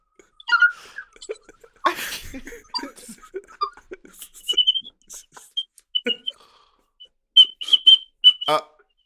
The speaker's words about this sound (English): Oh, she's whistling through her teeth. Oh, my goodness.